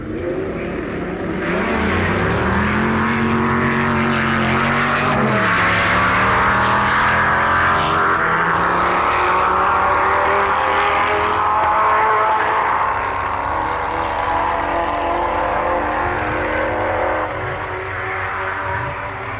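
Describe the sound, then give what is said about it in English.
The loud V8 engine of Dick Soanes' 3.5-litre Cooper Buick single-seater racing car roars, revving hard through rising gear changes as it accelerates on a drag run, with a continuous deep, raspy exhaust note. “The typical V8 engine note heralds a run by Dick Soanes in his 3.5-litre Cooper Buick single-seater racing car”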